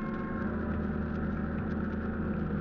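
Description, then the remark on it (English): Boat engines rumble steadily, a loud, continuous low drone with a throbbing mechanical pulse that holds constant throughout, with no voices. The engines are turned over as the boat heads for the beach after dark with its running lights off. “At last, darkness fell and we turned over our engines and started to the beach, our running lights extinguished.”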